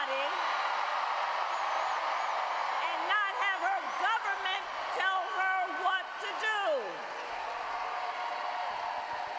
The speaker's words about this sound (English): Sounds like some protesters in the crowd.